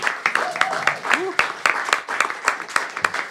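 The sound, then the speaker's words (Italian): An audience at a stand-up comedy night claps steadily and loudly for a few seconds as the first comedian is introduced, many hands making a dense, rapid patter, with a short voiced whoop rising out of the crowd early on. “Io vi chiedo un grandissimo applauso”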